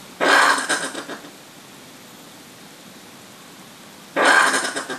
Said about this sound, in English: John, this one's a brush-tail possum. Researchers have documented 18 different brush-tail possum sounds, and these include, and I quote, grunting, growling, hissing, screeching, clicking, and teeth-chattering calls